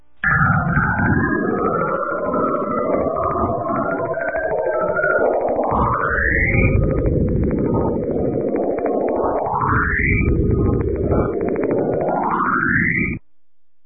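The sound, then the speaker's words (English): Recorded radio emissions from Saturn, known as the Saturn Roar, converted to sound in their original unfiltered form: a loud, steady, rumbling roar with crackling noise, cut by three rising whistling sweeps that glide upward in pitch every few seconds. “What I'm about to play you is that roar in its original sound.”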